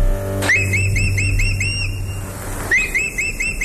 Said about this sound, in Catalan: És el falcó? És el falcó.